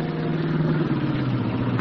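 The engine of Billy Johnson's old jalopy drones steadily at night under a full moon as the car shifts into second gear and slows down, a low rumbling hum with a gritty mechanical edge that holds an even loudness throughout, with no voices over it.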